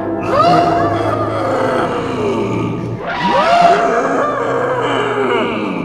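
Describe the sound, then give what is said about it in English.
Three elephants rumble and roar in two long, loud calls, one after the other, deep growling tones with a rough, bellowing edge and no talking. “there's an elephant in the room. Three of them?”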